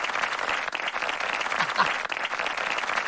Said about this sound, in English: But before we get there, we're going to introduce him by a round of applause.